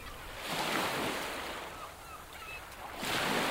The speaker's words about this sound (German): Und der war auch blind und wollte das Meer, hörte das Meer rauschen.